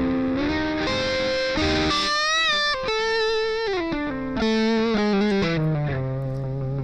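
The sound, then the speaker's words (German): A distorted electric guitar plays a melodic line of sustained, gliding notes, fairly loud throughout, with a gritty, saturated digital multi-effect tone whose distortion eases when played softly, and no voices. “Die Verzerrung geht runter, wenn der leise spielt.”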